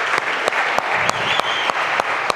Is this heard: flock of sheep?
no